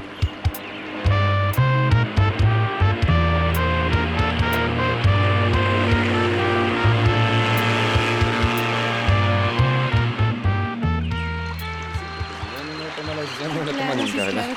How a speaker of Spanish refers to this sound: Bueno, ¿quieren que pongamos un poco de emoción y aceleremos la lancha?